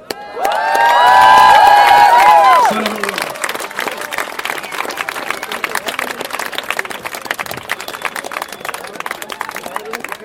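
audience applauding and cheering

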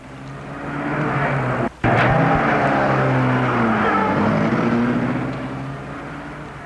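car driving away

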